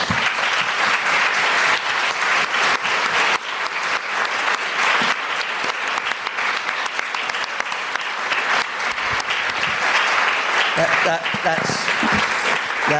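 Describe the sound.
Sustained applause as an audience claps for itself at the end of a discussion event, a dense, steady wash of many hands clapping at an even, loud level, with a few brief voices surfacing near the end.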